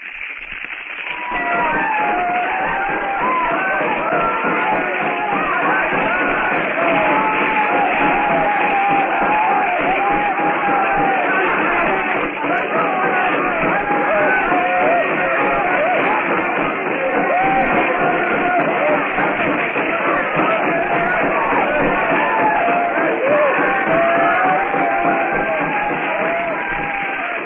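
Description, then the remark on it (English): A large dancing crowd yells and whoops without pause as they circle a blazing hut set on fire by a flaming arrow, many voices overlapping in a loud, steady roar with rising and falling shouts that carry through the whole stretch. “The blacks leap and yell as they circle the fire trap.”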